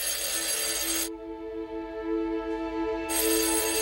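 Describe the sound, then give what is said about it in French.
A telephone rings with a bright, buzzing electronic tone in two bursts separated by a short pause, fairly loud, with no one speaking: a phone call to Édith Cresson from François Mitterrand, who wants to have lunch with her. “Quelques jours avant cette annonce, elle reçoit un coup de téléphone.”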